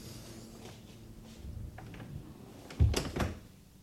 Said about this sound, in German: Erlauben Sie, dass ich hereinkomme und dass ich die Tür wieder zumache?